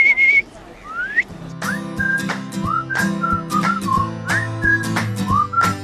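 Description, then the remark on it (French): A person whistles an imitation of the loud call of a very small bird found on Guernsey, called a "renne": a series of short, high, sliding chirps and warbles, repeated over a steady droning background with occasional sharp clicks. “À Guernesey, on a des oiseaux qui s'appellent des rennes. C'est des oiseaux tout petits, mais ils font un cri très fort.”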